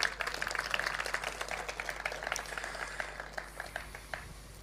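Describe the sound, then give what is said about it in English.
An audience at a ceremony applauds an honored sculptor for their work for Hellenism throughout the world, with a dense, steady patter of many hands clapping, holding fairly even for several seconds before thinning slightly toward the end. No one speaks over it. “and of course to our most honored sculptor and dedicated Helene, we should give you a round of applause again for all that you've done in terms of Hellenism all throughout the world.”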